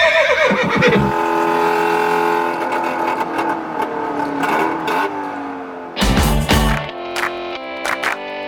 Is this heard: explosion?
no